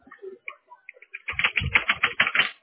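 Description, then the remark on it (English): Rapid clattering of keys on a computer keyboard, a dense run of sharp clicks after a quieter start with a few faint, scattered taps. “Yo sé, el keyboard no funciona.”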